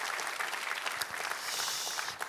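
A church audience gives sustained applause to encourage the choir and its conductor after a hymn, a dense, steady wash of many hands clapping at once with no voices rising above it.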